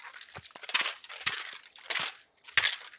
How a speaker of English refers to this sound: That sweet sound that all meatheads like to hear with their shaker cup, with their blender bottle, whatever they're called. I'm drinking some pre-workout before I hit the gym.